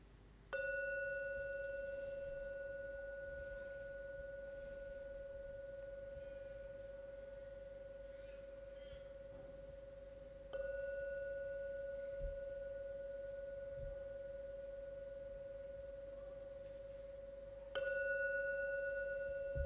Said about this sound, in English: On hearing the gong 3 times to end the meditation, please listen to every sound from the gong. When the last sound from the gong vanishes, then come out from your meditation.